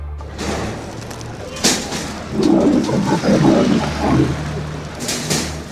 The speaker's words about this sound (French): Et c'est en Autriche, contrairement à ce que vous entendez derrière moi, que nous emmène aujourd'hui l'escale reportage d'Un jour dans le monde. Mais vous allez vite comprendre pourquoi il y a un lion là juste dans le studio.